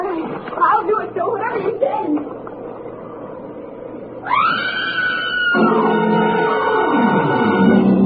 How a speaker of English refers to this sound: Now, look, get over there inside the barn and scream. Long and loud, huh? Scream? Yeah. It's our only chance.